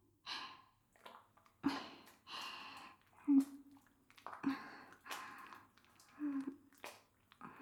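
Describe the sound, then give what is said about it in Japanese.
Wet squishing and slippery rubbing of a bar of soap held between the legs and worked into foam, in a series of short irregular bursts with soft breathing between them and a faint low hum underneath. “今度はおっぱいじゃなくて、あそこで石鹸挟んで、泡泡のぬるぬる 準備していきますね。”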